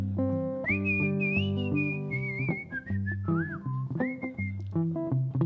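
A person whistles a wavering, slightly pitchy melody over a steady instrumental backing with a low bass line, the whistle sitting clear and prominent above the music.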